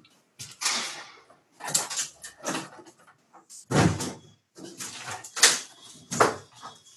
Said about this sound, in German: Ja, ich mache das Fenster zu, ich tue da irgendwas hämmern.